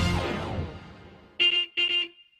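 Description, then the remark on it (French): A bus horn honks twice in quick succession, loud, each blast brief and bright, following a fading rumble at the start. “Allez, venez dans le bus magique !”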